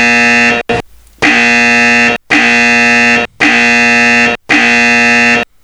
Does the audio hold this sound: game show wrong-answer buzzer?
yes